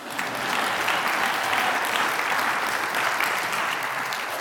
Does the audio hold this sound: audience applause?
yes